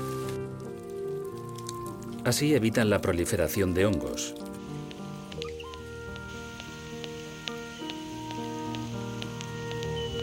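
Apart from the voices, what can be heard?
rain falling on leaves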